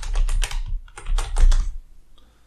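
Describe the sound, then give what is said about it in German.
Rapid clattering keystrokes on a computer keyboard, fairly loud, in two quick bursts over about two seconds before trailing off into near silence, as someone types a web search for the meaning of a German proverb. “Ja, such mal, du bist doch gerade so schön am Tippen gewesen. Such mal weiter hier.”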